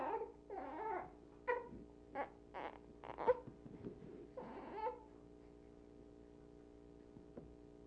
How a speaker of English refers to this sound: We don't record those things. We don't record these little whimpers.